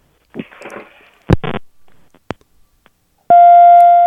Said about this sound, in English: That was a weird beep.